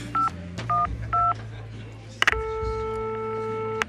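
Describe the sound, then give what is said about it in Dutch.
Three short, evenly spaced touch-tone beeps as a phone number is dialed, followed by a couple of sharp clicks and then a steady, sustained electronic line tone over a low hum. “Ik zou hem bellen.”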